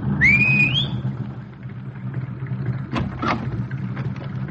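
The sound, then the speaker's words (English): A single sharp, rising whistle from a man hailing an approaching cab rings out loudly over the steady low rumble of a car engine and street traffic, followed by a few soft clunks. “He whistled for it.”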